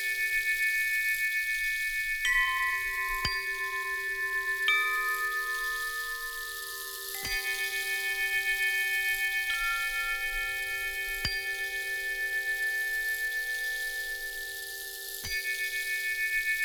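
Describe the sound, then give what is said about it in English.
Wind chimes ring in the wind with irregular strikes every couple of seconds, each clear metallic tone sustaining and overlapping the next, over a soft steady background hush with no voices. “Wind speaks through the chimes.”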